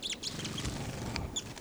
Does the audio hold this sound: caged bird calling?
yes